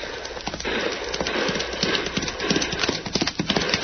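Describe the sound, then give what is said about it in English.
Rapid galloping horse hooves pound steadily for the full stretch, a dense drumming rhythm with a horse neighing over the clatter. “Madre mía, that's a fast horse that hombre rides, Cisco.”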